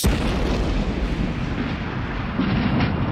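A violent explosion at a seaside campsite, a dense, sustained blast of rumbling low-end energy and crackling debris that stays loud for the full few seconds with no voices.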